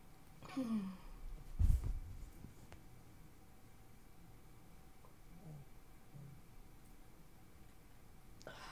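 domestic cat meowing

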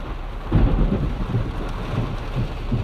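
thunder crack

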